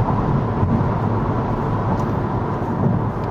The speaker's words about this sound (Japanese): 今まだサンフランシスコで高速道路に乗ったばっかりなので、だいたい今から40分とか50分ぐらいずっと高速道路を飛ばし続けるという状況になります。今車線変更したいんですけど、すげえ隣で他の車がブロックしてくる状態でちょっと困ってます。